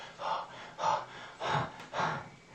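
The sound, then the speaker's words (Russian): A voice imitates heavy breathing: four loud, breathy heaves in a steady rhythm, each a rough gasp-like rush of air, with no words spoken. “Кит золотого цвета, тяжело дышал.”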